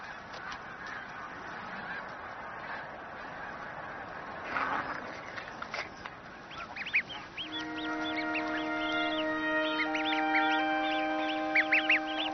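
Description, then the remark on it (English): Geese honk in a busy, overlapping chorus, with sharp bursts of calls that swell into sustained, nasal honking in the second half, mixed with high, thin peeping from goslings as the parent geese lead them down to the water, and no talking. “The vast majority of the goslings are still flourishing. Their parents lead them down to the safety of the water as soon as they're strong enough to make the journey.”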